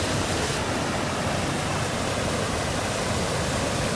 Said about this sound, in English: When waves hit you in the face, it's a little fun, a little adrenaline.